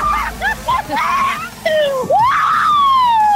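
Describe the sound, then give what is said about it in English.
A woman shrieks loudly in excited celebration in the middle of a soccer field on learning she is going to London, a string of high-pitched squeals that swoop up and down, ending in one long sustained scream. “Does that mean you can scream at the top of your lungs?”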